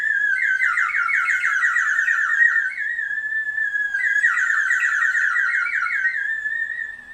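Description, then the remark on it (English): A water-filled whistle, brought back from New Zealand, is blown in two long, steady breaths, giving a loud, high warbling trill that bubbles and flutters rapidly, birdlike, with no voices. “I'm just blowing in it. I'm not even doing anything. Oh, because of the water. Yeah. It's got water in it.”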